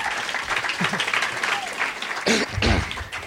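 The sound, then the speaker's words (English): A crowd claps and applauds steadily for David Bory as he is introduced, a dense wash of overlapping hand claps that swells louder toward the end, with some cheering voices mixed in. “Clap your hands for David Bory.”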